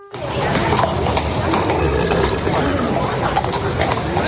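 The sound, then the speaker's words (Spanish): Horse hooves clip-clop steadily on pavement amid a busy outdoor crowd, with murmuring voices and street noise filling the background throughout, during a Holy Week brotherhood procession on horseback in Valladolid, Spain. “Con su paseo a caballo y también el cornetín de órdenes.”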